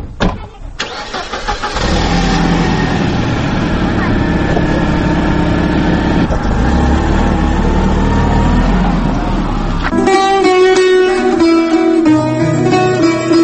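A car engine turns over and rumbles loudly as people get into the car, holding a steady roar for several seconds before it gives way to a brief tonal, musical passage.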